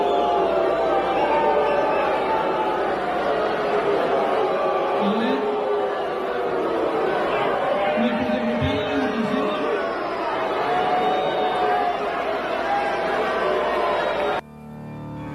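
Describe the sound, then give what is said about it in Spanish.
A large crowd boos the governor, Marina del Pilar Ávila Olmeda, loudly and steadily for about fourteen seconds, cutting off a director's speech. The booing is a dense wall of overlapping voices that swells slightly before cutting off abruptly near the end. “Bueno, pues ya no lo dejaron terminar de hablar al director y de inmediato se escucharon los abucheos.”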